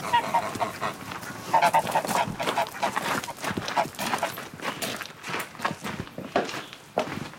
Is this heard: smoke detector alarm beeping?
no